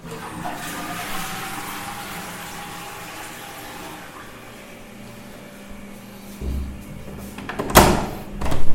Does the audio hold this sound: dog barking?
no